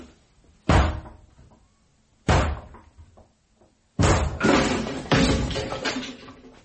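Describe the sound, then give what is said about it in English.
A locked door being forced and broken down: four loud, heavy crashing blows at uneven intervals, the last two longer and rougher as the door gives way. No voices. “I'm going to break the door down, or rather we are.”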